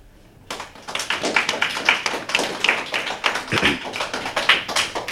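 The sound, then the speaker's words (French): A group of children clap together in a lively, continuous burst of applause welcoming the CE2 pupils of the Paul Langevin school to the Bubble Game on Bubble Radio; it starts after a brief pause and keeps going, fairly loud, with no talking over it. “On peut les applaudir.”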